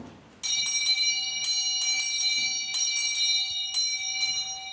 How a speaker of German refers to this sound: Wenn man diese Klingel hörte, wusste man, die Diener müssen rennen. Dann läutete der König oder die Königin wegen irgendwas.